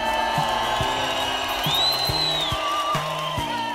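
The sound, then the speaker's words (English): A roaring crowd cheers and applauds wildly without letup, with a whistle rising above the din and low shouts mixed into the steady noise. “Casey, could we get a wild applause cue?”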